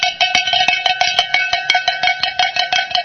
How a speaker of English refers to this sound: I think Paul's saying that I got a fever and the cure ain't more cowbell, right? Cowbell is not the prescription here.